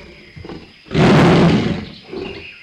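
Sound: tiger roar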